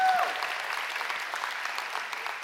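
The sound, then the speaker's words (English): Sustained applause from a sizable audience for a student team speaker, a dense steady patter of clapping hands with a few cheers mixed in, including his father cheering from the front row, fairly loud and continuous throughout. “His dad's in the front row right there cheering.”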